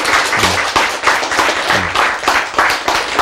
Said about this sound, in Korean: 박수.